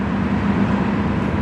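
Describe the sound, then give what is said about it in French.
Steady outdoor traffic noise at a bus station in Detroit in the cold and rain, a continuous low engine rumble beneath a broad wet hiss of rain, holding at an even level throughout with no voices. “À la gare routière de Détroit, Mary Howard, 71 ans, attend son bus sous la pluie et dans le froid”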